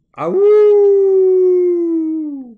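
A single long, loud wolf howl starts with a brief rough rise, then holds a steady pure tone for about two seconds before sliding down at the end.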